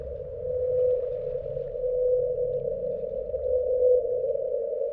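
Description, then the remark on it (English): A 52-hertz whale song, its pattern close to that of blue whales but pitched at 52 hertz, picked up by United States sonar listening equipment in the ocean: one steady, droning tonal call that holds unbroken over a murky underwater rumble, with no voices present. “The pattern of the song matched pretty closely with that of blue whales, but it came in at 52 hertz, which is, you know, 20, 30 hertz off of what whales typically sing at.”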